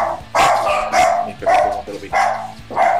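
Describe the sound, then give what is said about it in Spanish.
A white dog named Dalí barks about five times in a steady, evenly spaced rhythm, each bark loud, with no talking in between. “Un perro blanco heterosexual.”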